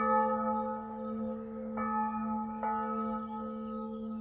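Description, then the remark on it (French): A single convent bell tolls steadily, calling the nuns to prayer, with a long, sustained ring, its resonant tone hanging in the air, struck again a couple of times with no voices present. “Qu'elles aillent prier, puisque leur cloche sonne.”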